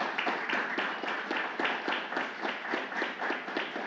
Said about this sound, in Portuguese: Uma salva de palmas para esse rapaz.